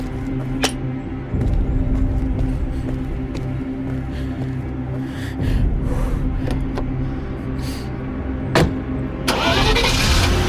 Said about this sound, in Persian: کامیون راه میفته.